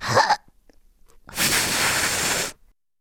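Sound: voice imitating a fart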